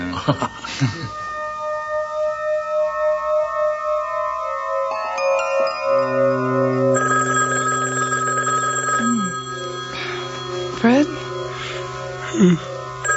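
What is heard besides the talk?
telephone ringing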